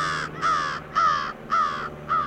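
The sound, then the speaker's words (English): Harsh, raspy crow caws repeat in a steady rhythm, five loud calls about half a second apart, clear with no voices, on a sea island with crooked oaks and Spanish moss, above crashing waves. “if only those crows could squawk nevermore.”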